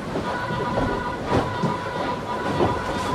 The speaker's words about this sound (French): Alors il y a une chose qui nous marque quand on rentre dans cet espace de vie, voilà, c'est le bruit. En permanence, c'est ce choc des vagues contre la coque.